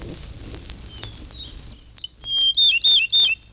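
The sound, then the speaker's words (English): A Japanese robin (Erythicus akahige) sings: a few faint chirps, then three loud, quick, ringing trilled phrases in rapid succession against a quiet outdoor background. “Erythicus akahige.”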